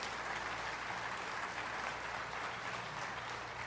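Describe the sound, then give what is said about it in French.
An audience at a morning worship service claps steadily, a dense, continuous wash of many hands at moderate volume, with no voices standing out over it. “Alors, est-ce qu'on peut applaudir le refuge de génération en génération?”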